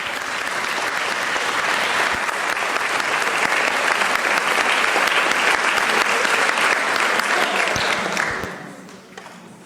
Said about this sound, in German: Und bitte einen Applaus an die drei.